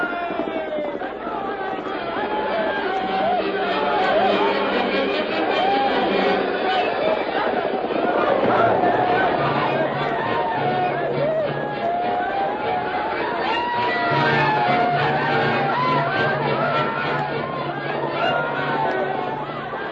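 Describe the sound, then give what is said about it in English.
Geronimo's war party shouts battle cries as it rushes toward a fort in a Lone Ranger drama: a dense, loud mass of overlapping voices yelling and whooping continuously for the whole stretch, with a low steady rumble underneath. “They can't hear you above their shouts, Geronimo. Here they come into the trap.”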